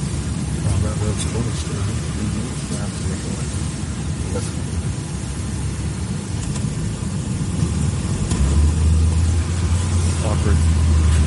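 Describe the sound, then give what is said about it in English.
Steady low road rumble from inside a moving car heading to a paddle boat, with traffic noise around and muffled voices underneath; a deeper droning hum swells in near the end. “Yeah, traffic's everywhere.”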